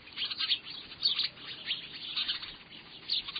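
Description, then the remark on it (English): A busy tangle of high, bright chirps from many house sparrows, overlapping in a constant chattering stream with no pauses, moderately loud and with no voices. “Sometimes a bush they've settled in seems to be alive with their chatter”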